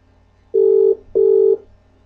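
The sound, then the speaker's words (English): Two steady electronic ringback tones from an outgoing Skype call to the Skype sound test service, each lasting under half a second with a brief pause between, loud and clear with no one talking. “Echo Sound, calling Echo Sound test service. One more time.”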